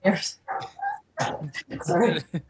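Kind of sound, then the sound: animal, dogs barking and whimpering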